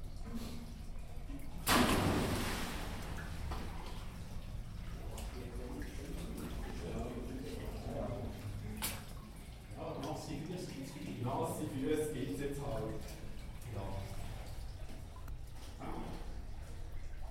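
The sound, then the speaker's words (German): Water sloshes and drips, reverberant, inside an old mine tunnel about 30 to 40 meters in, with water lying on old compressed-air pipes and rails, a sharper splash near the start, while people talk over the watery sounds throughout. “Wir sind jetzt 30, 40 Meter hineingegangen, sind dadurch das Wasser auf alten Druckluftrohren und auf den Gleisen sind wir da, haben wir da herumbalanciert und haben einigermaßen nasse Füße gekriegt”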